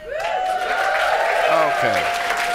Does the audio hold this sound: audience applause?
yes